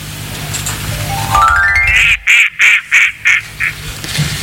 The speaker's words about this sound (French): Mais on va tout de suite passer au coin-coin.